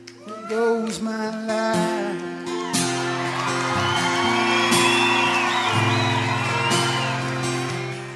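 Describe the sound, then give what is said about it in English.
An audience at a live song performance breaks into loud, spontaneous, sustained applause with whoops and cheers for the song's writer, rising after a few seconds and continuing steadily over lingering musical tones. “And that spontaneous applause from the audience showing their appreciation to the writer, and the writer, in the end, sharing his life with complete strangers.”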